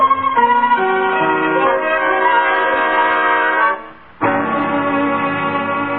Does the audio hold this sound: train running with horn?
yes